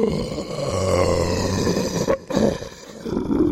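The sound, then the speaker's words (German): A voice imitates heavy, rasping breathing through a distorting effect, producing deep growling inhales and exhales, with a brief pause midway before the breathing resumes. “Ich müsste das eigentlich mit so einem Effekt machen.”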